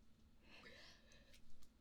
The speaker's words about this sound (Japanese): ごめん、あくび出ちゃった寝る前に撮ってます、撮ってました